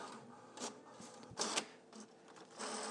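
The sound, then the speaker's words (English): A roommate's printer prints a receipt, whirring and clattering as it feeds paper, with bursts of mechanical grinding and rolling rising and falling over a few seconds. It is fairly quiet, with no talking. “Yeah, and this is actually my roommate's printer.”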